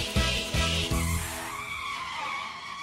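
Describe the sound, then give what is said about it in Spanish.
A car engine revs in three quick bursts, then the vehicle pulls away with a long hissing squeal of tires that fades slightly as it goes. “Vamos de paseo en un auto feo, pero no me importa, porque llevo torta.”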